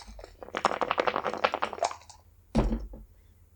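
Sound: dice being rolled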